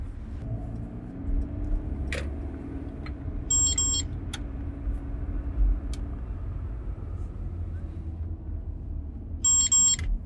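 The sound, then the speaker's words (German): Two short bursts of rapid, high-pitched electronic beeping from a taxi's speed camera warning device, several seconds apart, over the steady low rumble of the taxi interior in motion, with no one talking. “Ach, immer wenn er einen Blitzer hat, dann geht er an.”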